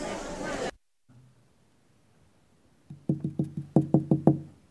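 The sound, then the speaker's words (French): Firm knocking on a locked wooden bedroom door, about eight solid raps in two quick insistent bursts, fairly loud, following a brief rush of hiss and a quiet pause. “Mais la porte de sa chambre était fermée à clé. J'avais insisté.”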